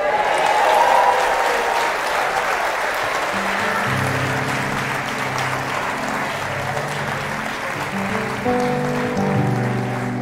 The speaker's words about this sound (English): Stand with me, please. Stand with me. Thank you for your kind applause. I didn't expect that.